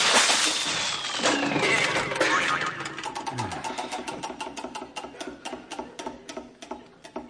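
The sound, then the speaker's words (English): A smoking category wheel spinning far too fast, starting as a loud, dense whirr and turning into a rapid run of steady clicks that gradually ease off, with no talking. “Not supposed to go that fast. Look, you can't see the categories for smoke.”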